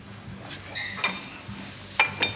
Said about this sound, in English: Connor grabs a glass, then reaches past him for a bottle.